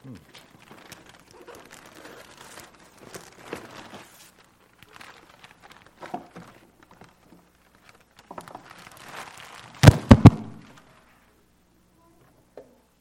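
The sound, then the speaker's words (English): Wrapping paper crinkles and rustles in uneven bursts as a delivered Christmas gift holding a clock is opened, building to a few loud, sharp tears before it falls quiet. “Let's open this together. It's Christmas season. Got a gift delivered at this point in time.”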